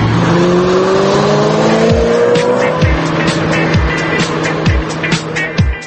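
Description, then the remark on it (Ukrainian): A sports car engine revs loudly, its pitch climbing steadily as it races by, with sharp bursts and tire noise punctuating the continuous roar. “Модена відома як столиця спортивних автомобілів та двигунів.”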